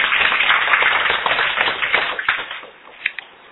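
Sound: audience applause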